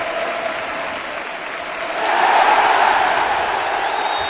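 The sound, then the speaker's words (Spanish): A huge stadium crowd at a Barça football match breaks into sustained, roaring applause and cheering in the 14th minute, a dense wall of clapping that swells louder midway and stays intense throughout, with no clear voices standing out. “y ovación atronadora de nuevo en todo el estadio.”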